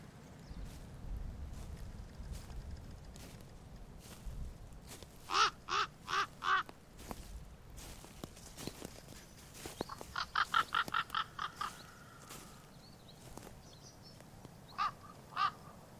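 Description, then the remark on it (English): A raven calls in a forest, giving several short bursts of harsh croaks, then a quicker run of calls and a final lone croak, over a low rumble of wind. “Many of you have likely heard that call before of the Raven, and while it may seem something common, the rest of this animal and its special characteristics is anything but common.”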